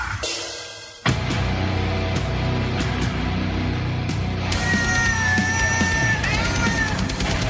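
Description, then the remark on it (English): Loud, dense heavy metal performed by cats kicks in after a brief quieter intro, with distorted guitars and driving, rapid double kick drumming, then high wailing, screaming tones rise over the wall of sound near the end. “It just sounds like regular heavy metal. Yeah, the double kick drum.”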